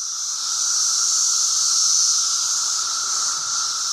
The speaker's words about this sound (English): That's when the loudest insect cacophony happens. It's when the cicadas called Brood X emerge from the ground and chirp and make noise for about a month. Now, here's a bit of tape from 17 years ago.